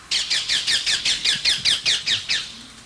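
A ring-necked parakeet calls in a rapid, steady series of about a dozen shrill, harsh squawks, loud, with no voices or other sounds competing.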